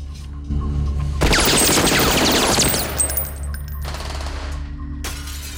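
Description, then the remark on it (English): A burst of rapid gunfire from a man who has climbed in through a window, mixed with bright crashing and tinkling of breaking window glass, then the noise fades into a low rumbling background. “A man climbs in through a window and starts shooting.”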